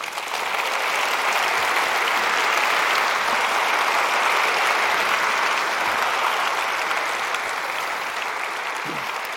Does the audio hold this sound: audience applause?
yes